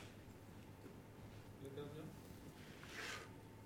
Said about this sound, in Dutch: Even een slokje water tussendoor.